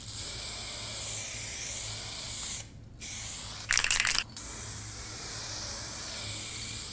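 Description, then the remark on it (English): Aerosol spray paint cans hiss in steady bursts as people spray graffiti on each other, with a short pause and a sharper, louder rattling spray burst in the middle before the continuous spraying resumes. “Pick up the cans. And spray. Graffiti is vandalism.”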